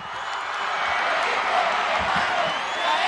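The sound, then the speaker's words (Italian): A large crowd in Mexico cheers and shouts for Pope Benedict in a dense, continuous roar that drowns out the mariachi music, staying loud and steady throughout, with individual voices blurring together and no music clearly audible over it. “E qui l'onda sonora dei mariachi viene sopraffatta da quella emotiva della folla.”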